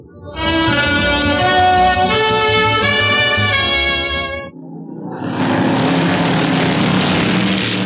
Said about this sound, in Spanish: Atardecer sombrío. Un enorme auto negro corre por la culebreante carretera que bordea la selva negra alemana. El que conduce es el feroz pistolero Chatras Metaxas, y en el asiento de atrás viaja el potentado Miklos Rogasis.